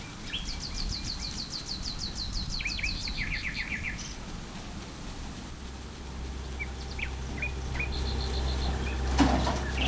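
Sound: birds chirping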